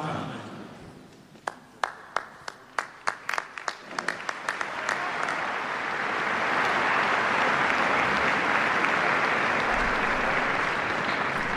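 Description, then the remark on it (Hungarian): Scattered individual claps start sparsely, then quickly multiply and swell into loud, sustained applause from a large crowd of pilgrims thanking Pope Francis for his words and blessing, continuing steadily to the end. “Úgy látszik, a zarándokok idénre is megtartották a jó szokásukat, és tapssal köszönik meg Ferenc pápa szavait, az ő áldását.”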